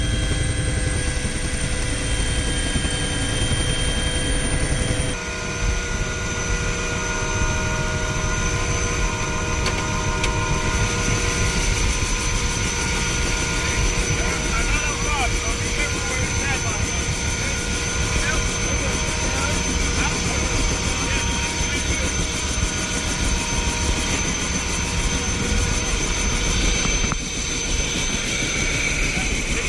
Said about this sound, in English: Here we are on the first helicopter flight in.